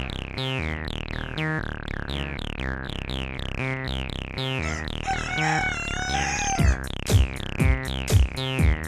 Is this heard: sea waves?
no